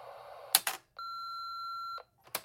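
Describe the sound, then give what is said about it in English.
A single steady electronic answering machine beep lasting about a second, clear, bracketed by short clicks and rustling handling noise before and after, with no one talking. “message after the beep.”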